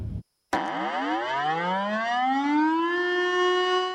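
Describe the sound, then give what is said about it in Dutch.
An air raid siren starts abruptly after a brief silence and winds up in a rising, sustained wail with rich overtones, loud and steady with no voices. “En de sirene is ook eigenlijk een soort luchtalarm.”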